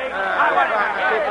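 An angry crowd of workers outside murmurs restlessly, many overlapping voices blending into a steady, agitated babble with no single speaker standing out, holding at an even loudness throughout.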